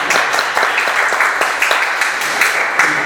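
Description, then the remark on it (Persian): Steady, dense applause from an audience at a Persian poetry reading, many hands clapping at once in a continuous wash of sound at an even loudness, with no speech over it. “این تشویق، این تشویق بالتر.”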